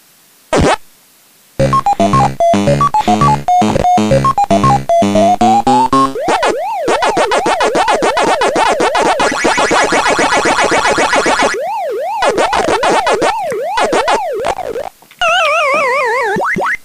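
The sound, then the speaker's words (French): Pac-Man arcade game sounds: a short bleepy electronic jingle, then loud warbling siren-like tones that rise and fall steadily, interrupted by brief gaps and a final faster wobbling chirp. “Oui, pendant que Pac-Man finit de jouer, je prenais une gorgée de bière, bien sûr.”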